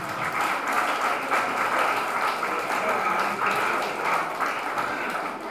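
Sustained applause from an audience, a dense steady patter of many hands clapping at once, fairly loud and continuous throughout with no voices standing out.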